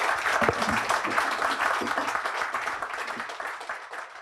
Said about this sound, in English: Thank you both so much for speaking here this evening. That was really interesting. Thank you all for being here. Thank you. If you could give a round of applause.